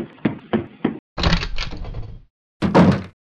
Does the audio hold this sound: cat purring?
no